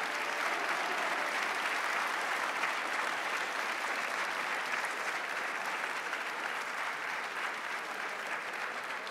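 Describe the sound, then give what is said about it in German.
A large audience gives opening applause for hosts Sebastian von Mehner and Gerald Groß at the start of the live show Kölner Live, a dense, even wash of many hands clapping that holds at a constant loud level for the whole stretch without pause or voices. “Dann bitte ein großer Anfangsapplaus für Sebastian von Mehner und Gerald Groß.”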